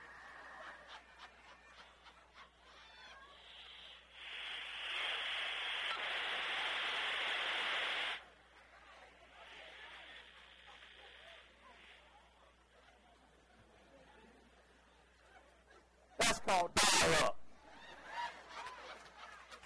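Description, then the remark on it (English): A dial-up modem connects to the internet: warbling tones, then a loud sustained hiss of screeching static, a softer crackly stretch, and a few sharp bursts near the end, heard alone. “We're raising a generation that will never hear this.”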